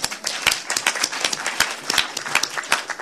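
An audience applauds a presenter after a talk on the regional affordable housing delivery system, steadily for a few seconds, many overlapping claps forming a dense, irregular patter with sharper individual claps standing out, moderately loud and without any talking.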